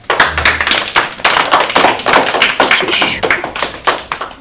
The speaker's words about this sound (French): Bonne réponse ! Applaudissez-les !